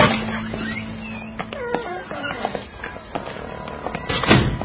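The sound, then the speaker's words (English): A door creaks open with scattered clicks and squeaks of the latch and hinges, ending in a louder thump as it swings wide, amid faint background noise. “Right through this door.”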